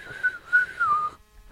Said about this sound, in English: We should all love each other and hold hands and whistle. Whistle